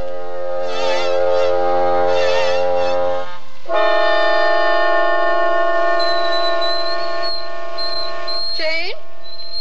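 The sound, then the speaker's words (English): A whistling tea kettle shrieks with a loud, steady, reedy tone. It warbles at first, then settles into a sustained shrill whistle that wavers and bends in pitch near the end. “Yes, turn off the tea kettle. Didn't you hear me?”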